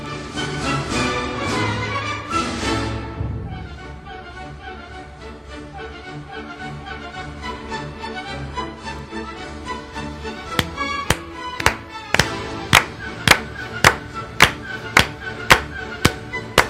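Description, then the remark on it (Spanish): An orchestra plays the Radetzky March at the close of the New Year's Concert, and partway through the audience starts clapping along in unison, sharp, steady claps landing on the beat over the music. “Esto es lo que hace el selecto público, que asiste al concierto de Año Nuevo cuando llega el cierre con la marcha Radetzky.”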